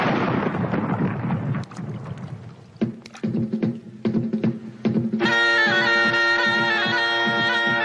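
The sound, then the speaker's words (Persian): A loud, deep cannon blast from a single cannon shot, fired after the sermon at a Qajar royal New Year ceremony, booms out and rolls away in a rumbling echo, followed by a few sharp cracks and then a steady, droning horn-like tone. No one speaks. “خطیب خطبه خواند، یک تیر توپ شلیک کردند.”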